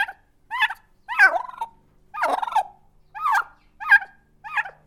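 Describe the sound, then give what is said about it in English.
Robin, a turkey at the Loving Arms Animal Sanctuary in Erie, Colorado, gobbles loudly in a string of about seven rapid, warbling bursts, each a quick rattling gobble separated by short pauses, with no talking. “This is Robin, a beautiful, boisterous turkey, graced with a wattle that looks very much like a string of pink, bubbling jewels.”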